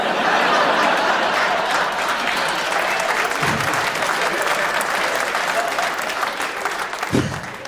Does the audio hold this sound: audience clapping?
yes